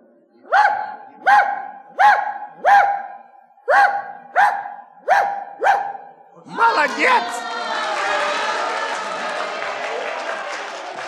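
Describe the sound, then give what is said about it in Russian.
A dog barks eight times in a steady, evenly spaced series, loud, giving the number of vertices of a cube, and then a crowd breaks into applause and cheering. “Это собака”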